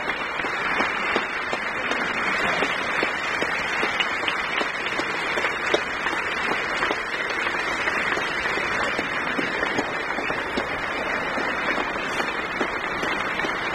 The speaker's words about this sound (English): Colonel Glenn is acknowledging the applause of the members of Congress and of those who are standing and applauding in the visitors' gallery.